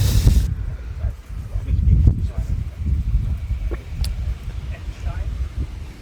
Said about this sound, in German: Und jetzt... jetzt kommt richtig der Wind auf und so. Hier ist jetzt was los.